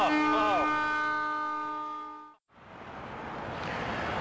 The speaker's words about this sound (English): Oh, here we go. Now we've got a train coming. It's gonna blow.